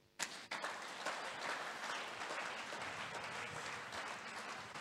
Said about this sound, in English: Clap for Jesus now.